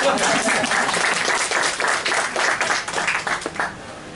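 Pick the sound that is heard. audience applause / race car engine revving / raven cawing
audience applause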